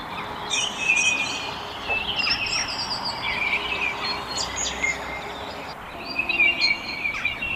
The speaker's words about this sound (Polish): Dosyć trudno jest go dostrzec, ale ja mam swój sposób na to, a mianowicie należy głos z internetu przywołać zimorodka i ten ptak pojawi się dosyć szybko w naszej okolicy.